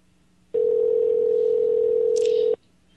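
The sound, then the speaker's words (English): A single steady telephone tone sounds for about two seconds, loud and clear with no talking, as a call is placed to a governor's office; a brief higher beep flickers in just before it cuts off. “I don't think they're going to answer the phone, folks.”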